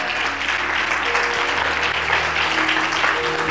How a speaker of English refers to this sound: Clap your hands and give him the glory.